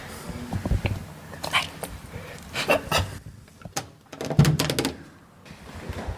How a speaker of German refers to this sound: Wir hören Schritte.